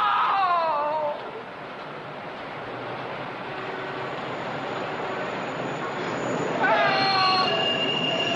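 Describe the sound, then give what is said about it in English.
An elevated train roars past overhead on the L tracks in a steady, heavy rumble, its metal wheels shrieking in high squeals at the start and again near the end. “Preach finds him lying motionless under the L-tracks, his screams drowned out by the trains above.”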